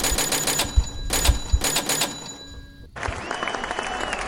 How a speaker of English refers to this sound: Do we have like a celebration sound effect? Yeah. Oh, I have the cash register. Do you want me to do the cash? Do the cash register.